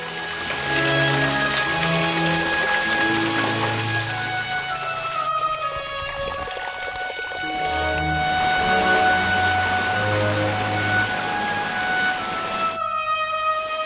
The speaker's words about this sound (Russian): Мистические ощущения возникают и при посещении великолепного Верхнего Воронцовского парка. В так называемой зале фонтанов по сей день на все лады журчит вода.